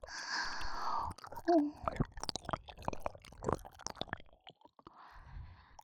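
A soft breathy hiss gives way to wet licking and smacking mouth sounds, a quick irregular run of sticky clicks with no talking.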